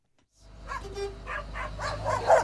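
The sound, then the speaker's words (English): A dog barks at a UPS delivery truck stop in rural Pennsylvania, a quick, uneven series of sharp yaps, moderately loud, over a steady low rumble in the background. “The UPS guy, the brown truck, the barking dog.”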